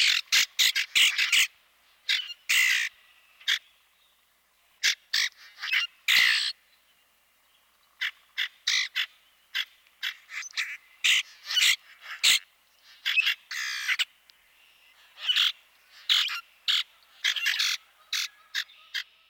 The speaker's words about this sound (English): While this species will never win any prizes for singing, his vocalization is a useful one to know. Here's the common grackle one more time.